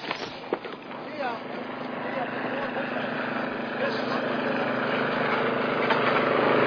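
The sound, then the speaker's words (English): The engine of a small Tupman 601 propeller plane drones steadily with a buzzing, slightly rough tone, growing gradually louder over several seconds. “What is that? It's a plane. Not just any plane.”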